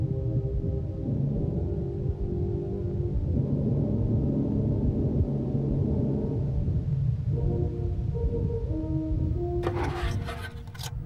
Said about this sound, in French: Voici de la musique enregistrée de la même façon in utero.